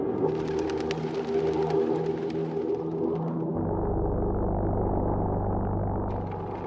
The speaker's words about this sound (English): The British call them buzz bombs because they make a motorcycle noise that alerts Londoners to their arrival.